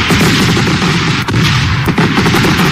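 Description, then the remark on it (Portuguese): Fireworks set off as a birthday greeting crackle and burst in a dense, unbroken barrage of loud, sharp pops, like rapid gunfire, with a couple of brief dips in the roar and no voices. “Deixa eu ver se tem uns foguinhos aqui vindo pra gente soltar. Tem, vamos mandar fogo pra ela, viu?”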